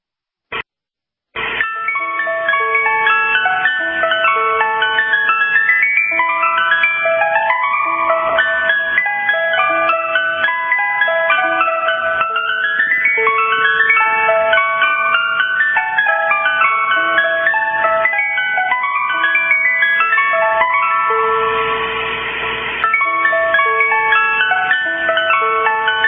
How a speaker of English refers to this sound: Sound of the ice cream truck. You know it. You ran down the street. You went to go get those popsicles, those creamsicles, those ice cream cones, right?